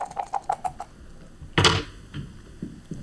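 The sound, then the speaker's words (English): Quick rattling clicks, then a sharp clatter as dice hit a hard surface, with a few softer knocks as they settle. Dice are rolled during a game, with no one speaking. “I will roll the dice.”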